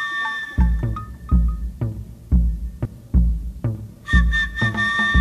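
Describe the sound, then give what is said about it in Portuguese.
An agogô, a Yoruba-origin instrument of two iron cone bells fixed to a handle, is struck in a steady, bright rhythm, ringing metallic tones over a deeper thumping pulse, fairly loud, with no voices. “Ele é feito de dois cones de ferro fixados em um cabo. E para tocá-lo, se usa uma baqueta de madeira ou de ferro.”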